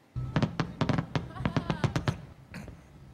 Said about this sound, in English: Now, despite the unhealthy air, a fireworks show went ahead as scheduled last night at San Francisco's Pier 39. It capped off an all-day celebration called Diwali, a traditional festival of lights popular in the Hindu culture.